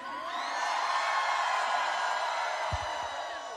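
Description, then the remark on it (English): A large concert crowd screams and whoops nonstop, a dense, loud wall of high-pitched cheering that holds steady throughout, with individual shrill whoops rising out of the roar. “You guys ready to scream?”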